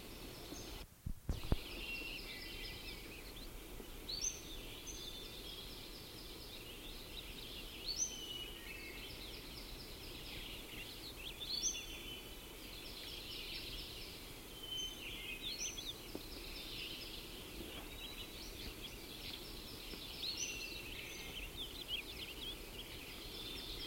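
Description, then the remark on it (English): A bird that has stopped singing and moved gives short call notes every couple of seconds, fairly faint, over a steady high-pitched background hiss like insects. No one speaks. “Moved and is giving call notes.”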